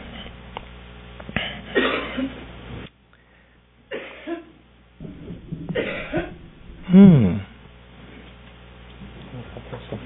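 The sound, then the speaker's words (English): A woman coughs repeatedly, several harsh bursts separated by short pauses, with the loudest, most strained cough coming near the end. “Does anyone have a cough drop”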